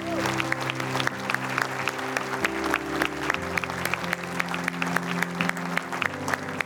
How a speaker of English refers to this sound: Keep clapping, church, another hand.